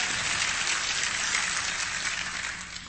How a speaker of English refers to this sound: Look, I've got 45 minutes. When you applaud, that takes my time. Don't applaud.